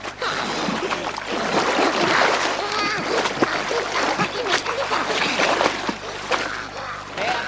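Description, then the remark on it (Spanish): Water splashes and sloshes continuously, with irregular sharp splats over a steady watery rush, as Gollum tries to fish among the rocks of a river; a voice murmurs faintly underneath. “Entre las rocas de un río, Gollum intenta pescar.”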